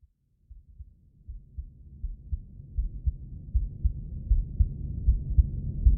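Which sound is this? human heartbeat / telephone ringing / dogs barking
human heartbeat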